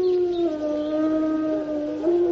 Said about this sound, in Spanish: Que el lobo viva donde pueda y donde deba vivir, para que en las noches españolas no dejen de escucharse los hermosos aullidos del lobo.